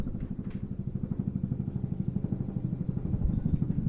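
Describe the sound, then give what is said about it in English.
A helicopter flying overhead along the Potomac River: its rotor chops in a fast, steady low thumping over a continuous engine drone, holding an even rhythm and swelling slightly louder toward the end. No one speaks. “Do you hear the helicopter coming, Mr.”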